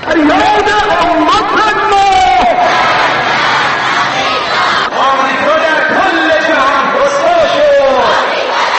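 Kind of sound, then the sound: crowd, rally crowd chanting slogans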